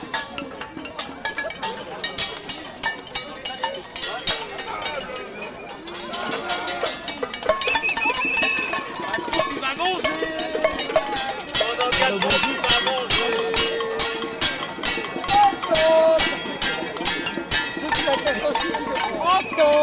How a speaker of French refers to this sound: Le concert de Casserole est en train de s'atténuer, j'ai les oreilles défoncées.